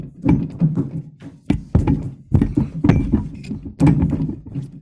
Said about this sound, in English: A robin attacks a robin. A robin attacks the robin in the glass.